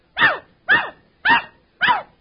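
A dog named Rover barks four times in a steady, evenly spaced rhythm after being asked how much two and two is. Each bark is loud and sharp, with brief silence between them and no voices.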